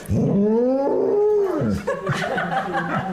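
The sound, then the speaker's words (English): A golden retriever dressed in a cow outfit gives a long, low, drawn-out moo-like call that swells and holds for over a second, followed by softer, scattered vocal noises. “Hearing a golden retriever mooing, I think that's just lovely.”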